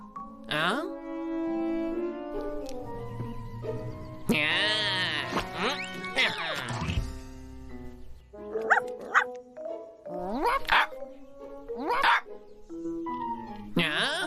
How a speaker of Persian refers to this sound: اون دیگه چی بود؟ اون یه پیرزن کوچولو بود با یه سگ که داشت پارس میکرد.